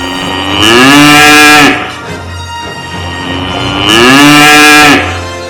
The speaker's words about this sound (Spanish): ¡Oh, no! Con el ruido de los mugidos se ha despertado la niña.